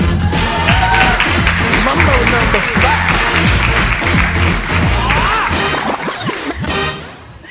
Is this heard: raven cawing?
no